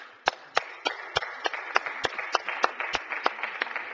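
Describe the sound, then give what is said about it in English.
A round of applause in the Missouri Senate welcoming a senator's guest, with one set of sharp, steady claps standing out at a brisk even rhythm over a dense wash of softer clapping. No one speaks. “And I would ask the Senate to please welcome her and give her a welcoming round of applause.”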